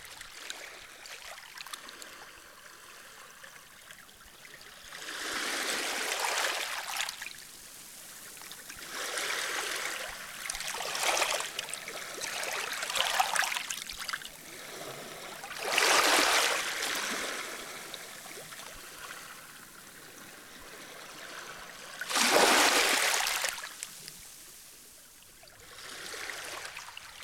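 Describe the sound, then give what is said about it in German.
Pacific Ocean water off the Canadian city of Vancouver washes in and out in irregular hissing surges, each swell rising and fading over a few seconds between quieter lapping, with no voices; recorded on an LP from 1973. “Der Pazifische Ozean vor der kanadischen Stadt Vancouver auf einer LP aus dem Jahre 1973.”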